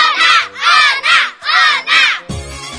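A crowd of children chants loudly in four rhythmic, high-pitched bursts, cheering for a contestant representing team Feijão in a school quiz game, before a single adult voice starts speaking at the end.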